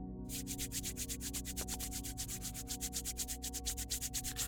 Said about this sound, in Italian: Sfrega i palmi delle mani tra loro.